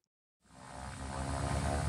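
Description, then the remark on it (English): A small propeller plane's engine drone starts abruptly after a brief silence and swells steadily louder, a continuous buzzing hum with a low, throbbing undertone and no voices. The plane flies back and forth along the Georgia coast on a winter day, with researchers looking for North Atlantic right whales. “This is the sound from a small plane flying back and forth up and down the Georgia coast one winter day 3 years ago.”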